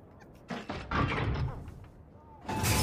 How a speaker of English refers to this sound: The door opens.